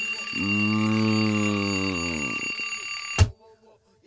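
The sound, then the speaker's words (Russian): A loud electronic alarm clock buzzes in one steady, continuous tone for about two seconds, then cuts off, followed by a single sharp knock and quiet. “Зрение меня подводит, но не мой будильник.”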